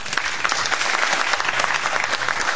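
A crowd of 1,246 spectators at a hockey match cheers and applauds, a dense, steady roar of clapping and shouting that holds loud and even for the whole stretch with no speech over it.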